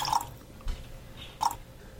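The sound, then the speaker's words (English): Drops of water fall into a glass of whisky: two small, bright plinks about a second apart, quiet, with a soft thud between them and no talking. “put a drop of water in this.”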